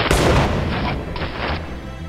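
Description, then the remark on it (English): A single loud gunshot cracks out in a garage, striking a woman in the neck, followed by a long rumbling tail that rolls on and fades unevenly over the next two seconds. No one speaks. “It's Karen, shot through the neck.”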